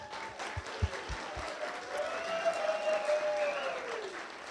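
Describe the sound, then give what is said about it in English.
An audience at an Arctic Entries storytelling show in Talkeetna gives a final round of applause for seven storytellers, a steady, dense wash of applause that holds at an even level throughout, with a few whistles rising and sliding over the clapping. “Before we break for the night, I just want to give one last round of applause to our seven wonderful storytellers.”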